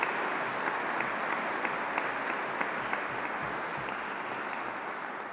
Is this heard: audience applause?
yes